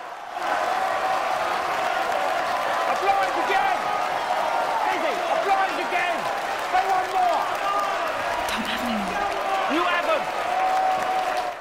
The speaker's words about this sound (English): John sits in the audience and applauds with a satisfied smile.